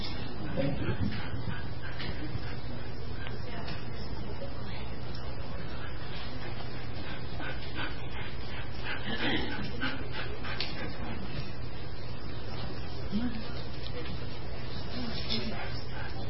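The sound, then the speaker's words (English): A 7-month-old wheaten terrier and standard poodle mix puppy whimpers, with soft whines and panting breaths scattered through a steady low background hum. “He's a Woodle, a Wheat Interior Standard Poodle mix that needs to go to school.”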